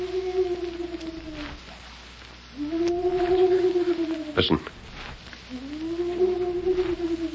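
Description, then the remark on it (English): A man imitates a hoot owl's cry with three long, steady, low hoots, evenly spaced, from just outside a jail cell in Canyon City in the evening. A sharp thump lands between the second and third, and a voice briefly speaks. “You mean it's somebody imitating the cry of a hoot owl?”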